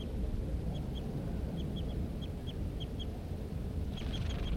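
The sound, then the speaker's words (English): A male bird near its nest tree calls in a series of short, high, chip-like notes, roughly a dozen spaced a few per second, over a steady low rumbling background; no one speaks. “There goes the male.”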